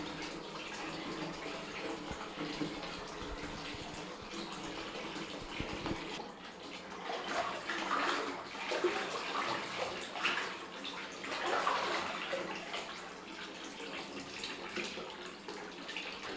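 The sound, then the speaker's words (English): Exceptionally hot bathwater sloshing and lapping as a person lowers themselves into the bathtub, a steady wash of water with a couple of louder surges as something shifts in the tub; no one speaks. “Exceptionally hot water. I'm gonna lower myself in.”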